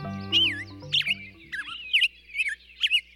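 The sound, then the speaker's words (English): A black-headed grosbeak sings a run of rich, warbling whistled phrases, about six in quick succession, clear, with a low steady hum fading out under the opening notes. “Clinton Francis is a sensory ecologist who studies how noise pollution affects birds, like this black-headed grosbeak.”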